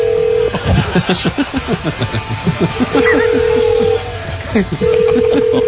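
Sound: telephone dialing and ringing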